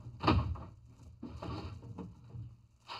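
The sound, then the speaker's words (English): A bottom kitchen drawer is pulled open with a loud wooden thump, followed by a few seconds of steady rummaging for big paper bags: soft knocks, scrapes and rustling of items being shuffled around inside. “Well, look in the bottom drawer there.”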